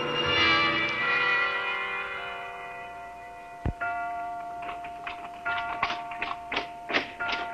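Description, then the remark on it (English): A single deep clock chime rings out and slowly fades, its tone hanging for several seconds; a dull thunk follows, then a steady run of sharp ticking clicks. “Clock.”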